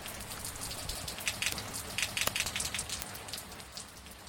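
Steady rain patters on a hard surface, a dense continuous hiss broken by sharper individual drops and brief louder splashes, with no voices.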